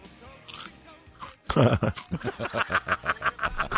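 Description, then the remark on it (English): Someone crunches wasabi mustard potato chips: after a quiet moment comes one loud crackling bite, then a quick, steady series of crisp chewing crunches that continues to the end. “Just felt like starting the show that way. With a sound effect. The crunch.”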